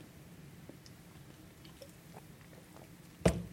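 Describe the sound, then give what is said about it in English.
Someone takes a sip of a drink: faint wet mouth clicks in near-silence, then a brief slurp near the end, with no talking. “I'm going to have a little sip here, right there.”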